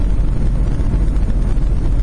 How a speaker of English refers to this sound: What is this thing coming around me? It's missing some chrome. Some chrome's coming off. It looks British, I'll tell you that. It looks British. But it's green. Making noise. It's a Jag. An XJ6 four-door. Puke green.